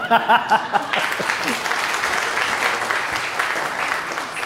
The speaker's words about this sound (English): Oh, man. They didn't catch that clue. That was a round of applause moment.